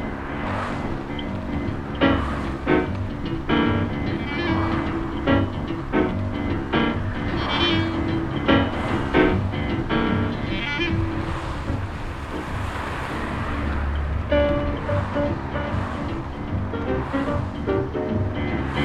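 A steady stream of cars passing on a road approaching Brighton, England, a continuous roar of tyres and engines with low rumbling swells and some wind buffeting the microphone, with no one talking.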